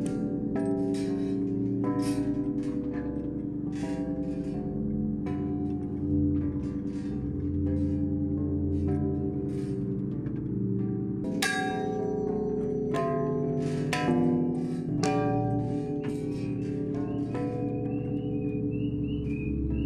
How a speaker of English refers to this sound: The sound of the world's largest wind chime. It hangs at Celestial Winds Harmonic Bazaar in South Eureka Springs, built by Renaga Farbiage.